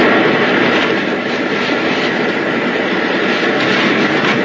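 A loud, steady airplane engine drones continuously with a dense, roaring rumble that never lets up, with no voices; the plane is one that might rescue people.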